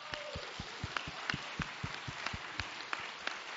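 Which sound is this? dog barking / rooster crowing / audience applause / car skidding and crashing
audience applause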